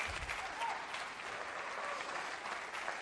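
A crowd applauds God's dream for each person present, clapping steadily in a dense, even patter of many hands that holds at a constant moderate loudness for about three seconds, with faint voices mixed in.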